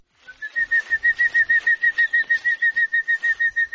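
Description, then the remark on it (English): A hummingbird buzzing past in Trinidad, its wings making a steady, whistling buzz, a pulsing high-pitched whir that throbs in quick, even beats for several seconds, loud and alone with no voices. “We've just got buzzed by a hummingbird. Did you hear that?”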